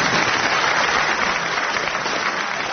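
A round of applause from a crowd: dense, steady clapping that stays loud for a few seconds and thins slightly at the very end, with no voices over it.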